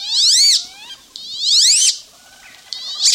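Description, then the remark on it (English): A wood duck (Aix sponsa) gives two loud, high, squealing calls that rise and then fall in pitch, with shorter, softer squeaks between and after them. No one speaks. “In today's Bird Note, Mary McCann reports that's how the Aix sponsa, the wood duck, was saved.”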